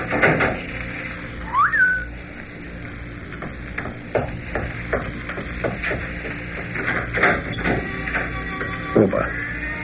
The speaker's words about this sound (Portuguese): Se aparecer alguém, tu assobia, então eu me mando. Tá. E tu, quando terminar o serviço, tu assobia também, né?